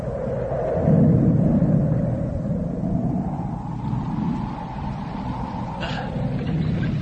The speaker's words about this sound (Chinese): 马车备好时，天空黑云密布，闪电大风带来了雨。